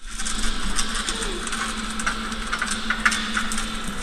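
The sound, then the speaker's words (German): A fishing boat's chain runs out into the North Sea, a steady metallic rattle with scattered sharper clanks, over the constant low drone of an idling engine. No voices. “Es ist der Klang einer Schiffskette, die ein Fischerboot in der Nordsee ins Wasser lässt.”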